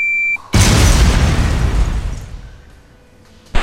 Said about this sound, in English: Place C4 explosive in current position. Then we press detonate. Detonation. Explosive.